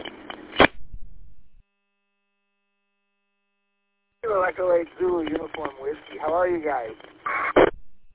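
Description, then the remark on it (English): A brief, buzzy digital data burst, an automatic number identification signal sent at the end of a radio transmission, squawks over a narrow radio channel and ends with a click. Silence follows, then a person talks over the same filtered radio audio. “You got some sort of digital burst of audio, so I don't know, but take care of that”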